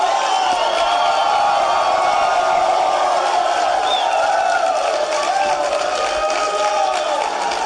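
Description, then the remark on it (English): A large crowd at the Value Voter Summit cheers Ted Cruz steadily, a dense roar of many voices with scattered whoops and shouts holding at an even, loud level throughout. “And so listen to what Ted Cruz had to say to an enthusiastic crowd.”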